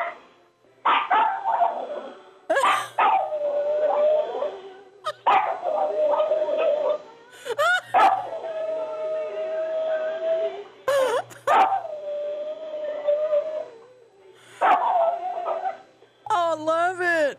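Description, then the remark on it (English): A dog named Buster howls along, 'singing', in a string of long, wavering notes that slide up and down in pitch, broken by short whines and yips, loud and sustained throughout, with a phone held up to him. “See if you can put the phone close to him where he'll sing.”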